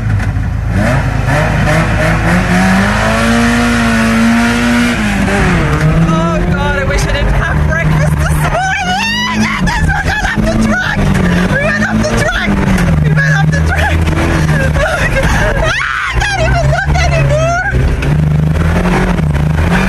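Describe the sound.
A powerful sports car engine revs hard and accelerates as a rally driver drives it around a track, its pitch climbing and shifting through gears, loud, with a murmur of voices in the background.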